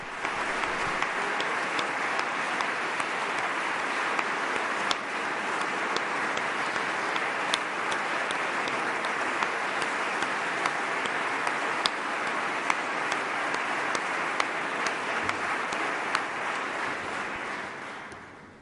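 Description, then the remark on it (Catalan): Sustained applause from a large crowd in the Sala Sant Jordi of the Palau de la Generalitat, given to Desmond Tutu as he stands up from the presidential table at the Premi Internacional Catalunya award ceremony. It is a dense, steady wash of clapping that holds at full strength for nearly twenty seconds before beginning to fade at the end. “Havia arribat a seure a la taula presidencial Desmond Tutu, ara s'ha tornat a aixecar per correspondre al llarg aplaudiment que encara està rebent a la sala Sant Jordi del Palau de la Generalitat.”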